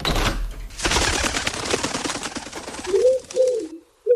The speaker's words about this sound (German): Huch, wer klopft denn da am Fenster?